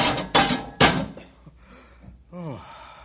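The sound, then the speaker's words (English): A cage door slams shut on a 12-foot-long animal, wedged in with a pole and released from a neck loop, with three heavy, clattering metallic bangs in quick succession, then a voice speaks briefly afterward. “Release the pole and we'll slam the cage door.”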